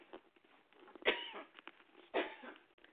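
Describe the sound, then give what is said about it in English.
Two harsh, loud coughs about a second apart, part of a coughing fit, standing out against a faint, murmuring background with no clear talking. “because I seem to have a coughing fit right now.”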